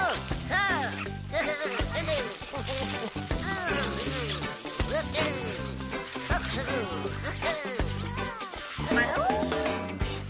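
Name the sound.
cat meowing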